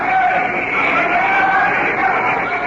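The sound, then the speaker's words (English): A large crowd of delegates and spectators at the League of Nations in 1936 claps steadily for Emperor Haile Selassie, a dense, continuous roar of applause mixed with murmuring voices, loud and sustained for the whole moment. “Other delegates and spectators applaud the emperor.”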